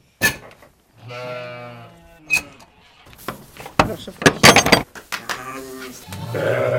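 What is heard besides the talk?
sheep bleating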